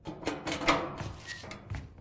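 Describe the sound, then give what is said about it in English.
A door being locked: a quick series of sharp metallic clunks and rattles over a couple of seconds, with no voices. “Get the lock on that door.”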